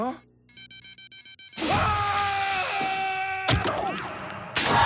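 A quick string of about six short electronic beeps sounds from the eject button of a craft that has crashed in a candy land with Ralph and the bug aboard, evenly spaced, before a loud burst of crashing, rushing noise takes over.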